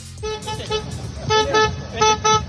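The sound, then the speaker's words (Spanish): A car horn honks in a quick rhythmic series of short, loud toots, sounded from the back of a car leaving Montjuïc to cheer on FC Barcelona fans, with a busy street-like rumble and faint voices underneath. “En la parte detrás del coche tocaba el claxon y quería animar a toda la afición del Barça.”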